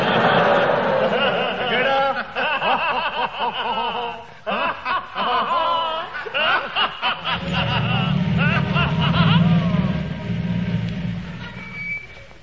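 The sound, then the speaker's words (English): Audience laughter and snickering fill the scene, then a heavy lorry engine rumbles in partway through, growling low and steady beneath the continuing laughter, as the lorry drives in and runs over people lying on the ground. “You just ran over us.”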